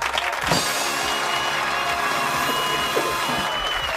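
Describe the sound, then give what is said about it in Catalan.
A steady, dense ovation of many hands clapping at once on a Catalan radio programme, given whenever the linguist Joan Coromines is cited, holding at an even, fairly loud level for about four seconds with no pauses. “Aquí, sempre que se cita Coromines, es fa una gran ovació.”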